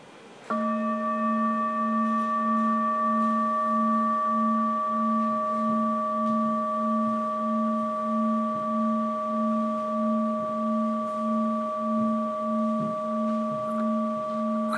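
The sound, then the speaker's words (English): A bowl is struck once and rings out with a steady, pure tone that sustains for the whole clip, its low hum gently pulsing while higher overtones shimmer above, with no talking. “So I'm going to just do the most simple way of playing it first, and I'm just going to strike it and you'll hear it ring.”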